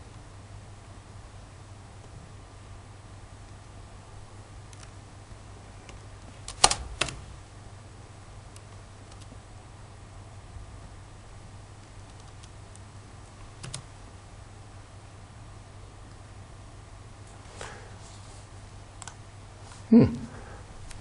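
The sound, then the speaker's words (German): Sparse computer mouse clicks and brief bursts of keyboard typing as someone clicks through to the Office 365 site, fairly quiet, spaced out over a steady low hum with long pauses between them. “Klick hier auf Office 365.”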